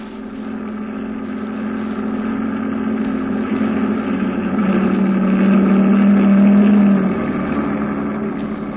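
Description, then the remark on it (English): A heavy engine drones steadily, then swells louder as a convoy truck, the seventh in line, rolls past around the middle and fades slightly as it moves on, with no voices. “Well, we'd take a chance. Truck number 7.”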